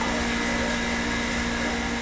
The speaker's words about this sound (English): Well, it's going to be hard to hear me, but this here is the water purification plant. So the purest water in the world.